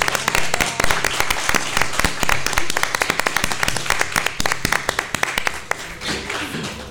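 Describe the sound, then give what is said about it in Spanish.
An audience applauds steadily, many hands clapping in a dense, crackling burst that stays loud throughout and thins slightly toward the end, at the third FLM Radio tapas contest broadcast live, applauding the participants and those who gave the prizes. “O sea que un aplauso para ellos, por favor.”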